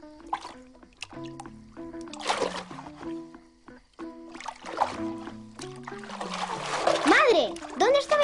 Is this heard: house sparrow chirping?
no